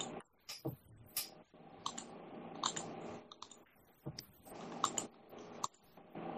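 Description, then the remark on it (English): A computer mouse clicks while someone browses the styles available for a title card in video editing software: a series of sharp clicks at an irregular pace, some in quick pairs, fairly quiet against a faint background hum with no talking. “I'm just clicking around different styles that are available on the title card.”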